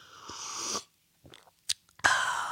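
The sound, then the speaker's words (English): Someone slurps a sip of Culligan water, pauses for a few soft gulping swallows, then takes another noisy slurp. There is no talking. “This sip of water has been brought to you by Culligan.”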